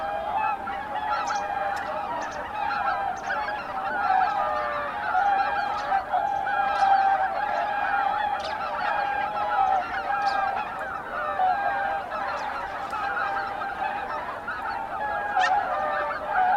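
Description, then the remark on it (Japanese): A flock of swans returning after 3 p.m. to Izunuma in Japan under a pink sunset calls continuously, a dense overlapping chorus of honking whoops with occasional louder, sharper cries standing out. No one speaks. “午後3時過ぎ、遠くから群れが帰ってきました。”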